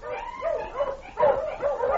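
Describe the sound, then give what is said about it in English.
A dog yelps and whimpers in a string of short, high, strained cries, moderately loud, with brief pauses between them and no talking, heard along a sled trail about 10 miles from Dawson. “About 10 miles from town, I was mushing along the trail, and suddenly I heard a dog.”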